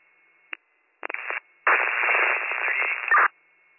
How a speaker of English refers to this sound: unit, you're all static.